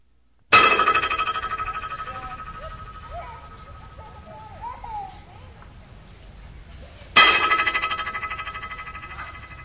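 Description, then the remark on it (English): A sharp sound under the parabolic bridge in Stanley Park, which sends a sound echoing up to 50 times, sets off a rapid train of echoes that merge into a buzzy, ringing flutter and fade over several seconds. It happens twice, with faint chirps between. “In our discussion of Stanley Park in the accompanying book, we mentioned one interesting acoustic artifact, the parabolic bridge, which sends a sound echoing up to 50 times.”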